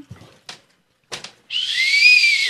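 whistle being blown

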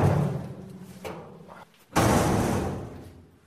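heavy door shutting

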